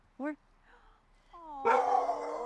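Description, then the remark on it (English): A puppy named Ty, out on a walk, gives a short, sharp yip, then after a pause breaks into a drawn-out, wavering howl that swells louder until the end. “Hi, puppy.”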